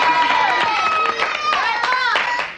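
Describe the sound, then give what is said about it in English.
A small group claps steadily and unevenly for a couple of seconds for Claire Huxtable, hailed as the first lady of poultry, with high-pitched cheering and whooping voices sustained over the sharp, scattered hand claps. “A round of applause for the first lady of poultry, Claire Huxtable.”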